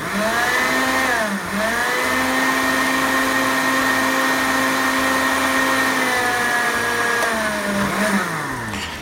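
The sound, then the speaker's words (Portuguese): A blender runs loudly and steadily for several seconds, its motor whine dipping and rising in pitch as a thick batter of corn, onion and linseed churns into a cream, with no talking over it. “Se você não tiver um liquidificador potente, vai dar trabalho, mas chega lá, tá?”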